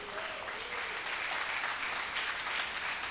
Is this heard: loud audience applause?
yes